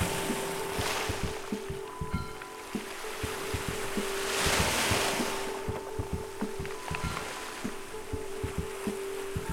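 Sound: ocean waves and wind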